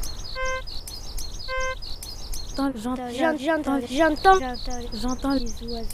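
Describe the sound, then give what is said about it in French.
Small birds chirp in quick, repeated high tweets throughout, moderately loud, outdoors at the edge of a lake in a park, while a person starts talking over them partway through. “J'entends des oiseaux.”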